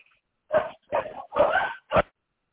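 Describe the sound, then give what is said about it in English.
Four sharp dog barks at a ringing doorbell, in an irregular burst, each loud and short with brief pauses between them, and no voices or other sounds around them. “Of course, my doorbell rings, so dogs are allowed to bark.”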